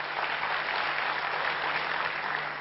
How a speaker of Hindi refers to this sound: अभी जोरदार तालियां बजाइए.